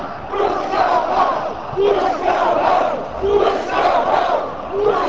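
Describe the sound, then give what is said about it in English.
A large crowd at a rally chants the protest slogan "Bus go home!" in unison, repeating the same rhythmic phrase about every second and a half, loud and steady throughout with no single voice standing out. “I just want to say to you, let's hear you. Bus go home! Bus go home!”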